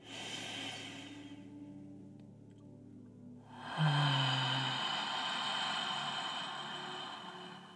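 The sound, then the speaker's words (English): A slow, deep breath drawn in and let out during a guided breathing exercise, heard as soft airy hissing with a brief pause before a long, fuller exhale with a sigh, all over a steady low musical drone. “So let's together breathe in deeply.”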